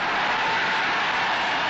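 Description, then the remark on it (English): A huge crowd of 25,000 extras cheers in one continuous, loud roar, a dense wash of many voices with no breaks or separate shouts standing out, lasting just under two seconds. “which will be dropped into the whipped cream to the cheering of 25,000 extras.”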